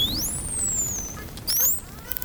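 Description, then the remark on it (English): Dolphins whistle underwater, recorded by hydrophone: several high, sliding squeals rising and falling over a low watery rumble, ending in a short burst of sharp clicks. “He's installed underwater microphones or hydrophones to help him hear them talking to each other.”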